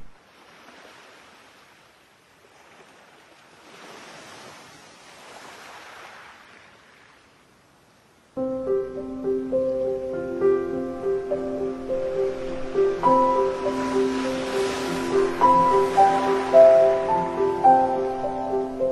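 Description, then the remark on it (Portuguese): Soft waves of the Aegean Sea swell and wash in twice over about eight seconds, quiet, before sustained instrumental music abruptly takes over and plays loudly for the rest. “Cala-te tu, de voz de azul arpia, e deixa-me que eu ouça outra vez o Egeu, as ondas sufocadas, as sereias cantando, e um riso que foi meu junto de tanto mar.”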